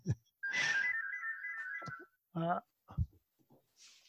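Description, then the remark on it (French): A telephone ringtone sounds in a home, one sustained electronic trill lasting about a second and a half, followed by a few short bursts of a voice speaking as someone goes to answer the phone. “il y a quelqu'un qui va prendre le téléphone chez moi.”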